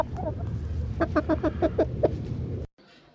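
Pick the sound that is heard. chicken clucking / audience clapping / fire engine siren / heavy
chicken clucking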